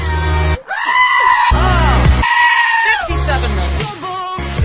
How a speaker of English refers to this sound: And they can write songs about them, make goats scream.